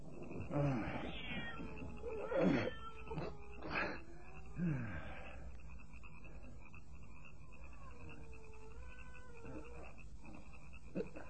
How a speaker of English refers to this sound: Cat! What do you want, Cat? That animal is out there in the dark.